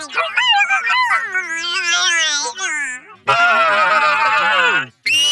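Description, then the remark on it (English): A person vocally imitates a Bigfoot call: a wavering, whooping howl that swoops up and down in pitch, then breaks into a loud, raspy, screeching roar before cutting off abruptly. “Want to hear my Bigfoot call?”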